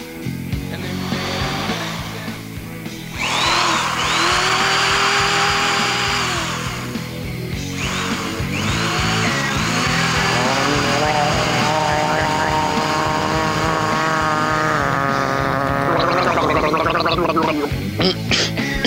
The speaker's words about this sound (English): He's down there sanding his teeth.